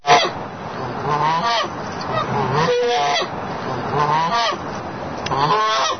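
A goose honks loudly and insistently at close range, letting out a continuous run of harsh, nasal calls that rise and fall for several seconds with no talking.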